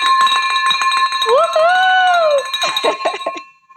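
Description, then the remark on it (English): A new celebration bell rings repeatedly, its bright metallic tone sustaining steadily throughout while clanging strikes repeat; a voice briefly rises over it near the middle. “You are the first one, Nana, that's going to get the new bell that was actually brought to me”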